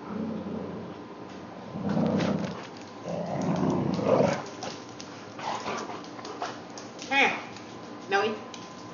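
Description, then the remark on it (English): A dog growls low and rumbling in sustained bursts, with a few sharper yips and whines breaking through near the end. “Hey, enough of that, I tell ya. Cleveland's hot dog again, apparently.”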